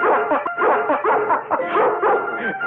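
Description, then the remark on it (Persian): A litter of eight newborn puppies squeals and yips nonstop, many thin, high-pitched cries overlapping in a busy chorus, with no talking. “آروم باش پسر. چونه سگا اومدن؟ چند تا؟ هشتا.”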